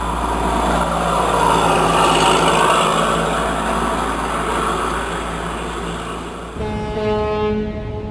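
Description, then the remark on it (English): A heavy truck engine on the interstate rumbles steadily and loudly, then shifts gears near the end as the motor drops into a new, higher-pitched whining drone. “A gear-shifting truck out of the interstate?”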